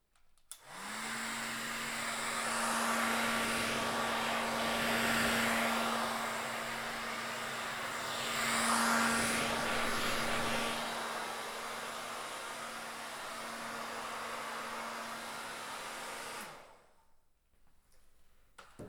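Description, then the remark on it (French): A hair dryer blows steadily with a constant motor whine and rushing air, its pitch swelling briefly as it moves, before it abruptly switches off near the end. “Ou alors du sèche-cheveux.”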